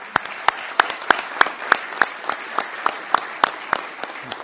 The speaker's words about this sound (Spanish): a la brevedad y si todo marcha bien, estaremos firmando un convenio con el Ministerio de Transporte y Obras Públicas para la construcción de las tribunas. Creo que también merece un aplauso.